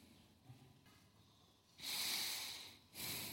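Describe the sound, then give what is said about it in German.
A deliberate, audible breath: a long, breathy exhale rushing out, followed by a second shorter burst of air, with a quiet pause before it. “Kann Atmen Sünde sein?”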